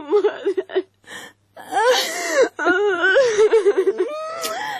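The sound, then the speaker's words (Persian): A close, loud voice wails and sobs in long, wavering, high-pitched cries, broken by short gasping breaths, with the crying rising and falling throughout. “دختر مادرت برد بمره حتی تالی گریه میکنی.”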